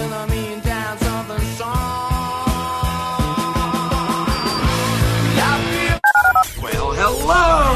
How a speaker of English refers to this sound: dial 713-780-ESPN. Dial the phone.